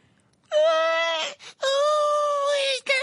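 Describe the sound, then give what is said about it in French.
A loud, high-pitched shriek from a voice, held in two long sustained wails separated by a brief gasp for breath, piercing with no talking, as the shrieker presses her hands over her ears. “en s'aplatissant les oreilles pour ne plus rien entendre et poussa un hurlement suraigu.”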